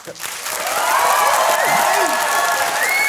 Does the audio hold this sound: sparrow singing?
no